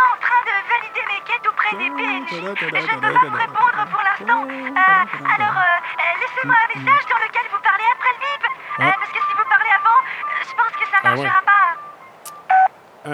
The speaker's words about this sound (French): Ça y est, il y a eu le bip.